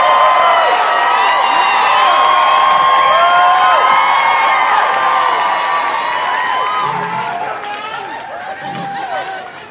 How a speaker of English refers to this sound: Stop clapping right now for your and my good friend, Josh Johnson, everybody.